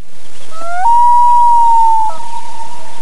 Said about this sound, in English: A loon. Oh, good, Bob. That's a common loon.